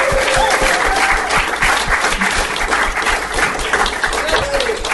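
Loud, steady applause from an audience welcoming a comedian up, a dense wash of many hands clapping that fills the whole stretch, with a few faint voices and whoops mixed in.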